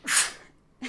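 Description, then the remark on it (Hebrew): A single sharp, hissy sneeze bursts out, followed by a brief breathy sniff or intake a moment later. No one speaks. “לבריאות.”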